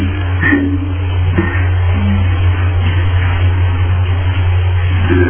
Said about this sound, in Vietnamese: thế là trời mưa ở bên ngoài như bị nghe cái tiếng mưa